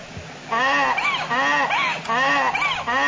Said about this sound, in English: Number 9, donkey.